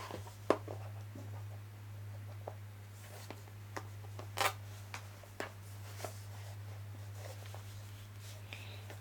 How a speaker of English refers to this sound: I'm gonna use my scissors so I can get under there because I'm having a hard time. I don't have sharp nails. Alright, I'm just gonna get my scissors under.